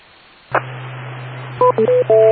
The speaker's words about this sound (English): Repeater, timeout.